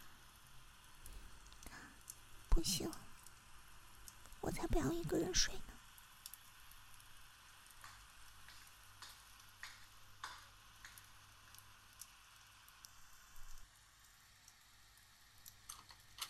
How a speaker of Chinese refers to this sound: 还在下雨啊，最讨厌下雨天了。